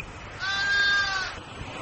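A single sheep bleat from a flock at a sheepdog trial, a steady, nasal, mid-pitched call lasting under a second, rising out of a faint hiss and fading back into it. No one speaks.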